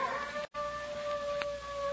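dog howling

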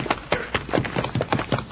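horse hooves clip-clopping

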